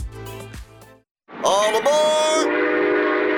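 A brief voice fades out, then after a short pause a loud passenger train horn blares over a heavy rumble, holding a sustained multi-tone blast as the train passes.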